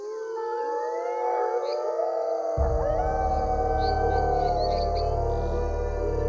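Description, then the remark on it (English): A chorus of many overlapping howls bursts from the forest surrounding a swamp, long wavering tones sliding up and down in pitch, steady and loud throughout, with a deep low rumble joining in about halfway through. “A cacophony of howling burst forth from the surrounding forest.”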